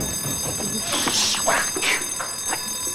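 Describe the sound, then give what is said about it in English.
A continuous high-pitched alarm rings steadily throughout, a sustained electronic tone with bright harmonics, mixed with scattered bumps and rustling noises. The alarm is in a Department of Sanitation office whose lock has been picked. “Police, we heard the alarm.”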